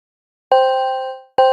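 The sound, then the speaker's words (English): A phone notification ding sounds twice, bright, bell-like and clear with no talking; the first tone rings out and fades before the second strikes and cuts off. “It could be the sound of your phone dinging every time you sell a product with TikTok ads this holiday season.”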